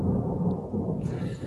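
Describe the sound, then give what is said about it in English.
A deep, continuous rumble of thunder rolls through a storm, steady and fairly loud for its whole length, with a faint hiss of rain rising in the last half-second. “It's the thunderstorm.”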